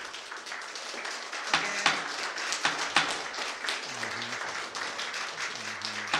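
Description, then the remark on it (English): An audience claps steadily for several seconds, a dense wash of many hands with sharper individual claps popping out, while a faint voice murmurs underneath toward the end. “Again, no clapping, please.”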